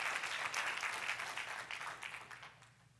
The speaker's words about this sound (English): Yeah, come on, give him a clap.